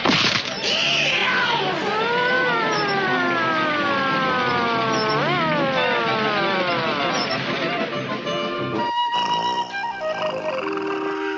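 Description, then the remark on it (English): A person loudly imitates a police siren with their voice while someone else drives, wailing in long rising and falling glides for several seconds before it breaks off into other clattering noises near the end. “Sarge, you be the siren for a while I drive.”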